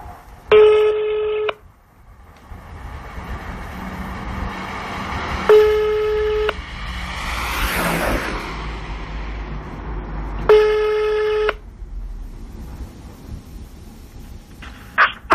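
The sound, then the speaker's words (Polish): Three loud, steady ringing tones of an outgoing phone call as a teenage or older daughter calls her father, each about a second long and spaced roughly five seconds apart, with quiet background hiss and rumble between them; no one speaks. “Dorastająca, już taka nastoletnia, a może nawet starsza córka telefonuje do taty.”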